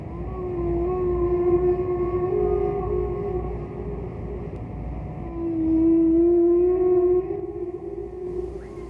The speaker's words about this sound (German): Ja, Wale, oder? Ja, Wale, Delfine ja auch.